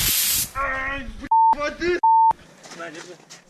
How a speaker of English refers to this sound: At that point, one of the women sprayed them with pepper spray.